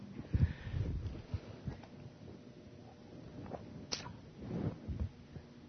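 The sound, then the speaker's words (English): A quiet pause filled with soft mouth and handling noises as a preacher takes a sip of water mid-sermon: low muffled thumps, a brief click, then faint swallowing sounds, with no talking. “I need a drink of water.”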